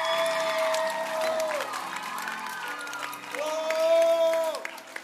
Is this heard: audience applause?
yes